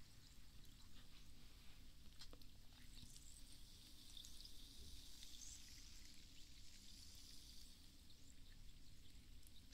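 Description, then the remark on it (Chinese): A soft, steady fizz of sugar-free sparkling water with added vitamin D, a continuous hiss of tiny popping bubbles with faint crackles, lasting the whole time with no voices. “这只是其实只是一个气泡水，加个维他命 D， 无糖的，是不是很健康啊？”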